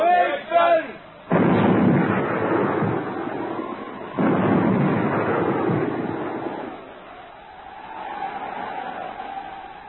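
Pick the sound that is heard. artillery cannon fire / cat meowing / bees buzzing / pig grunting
artillery cannon fire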